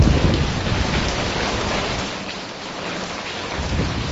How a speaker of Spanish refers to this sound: Instituto de Meteorología Portugués acaba de bautizar esta borrasca como Armand, la primera gran borrasca del otoño de la temporada, y nos ha dejado lluvia y viento intenso esta pasada madrugada en el oeste y ya por la mañana en el este de Galicia.